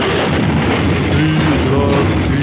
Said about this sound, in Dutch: Wat gebeurt er nou weer? Ja, twee auto's op elkaar.